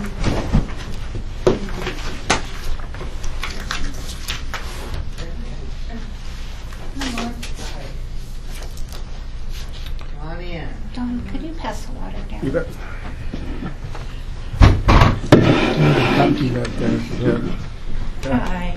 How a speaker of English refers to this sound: Sorry, I'm just going to pull another chair.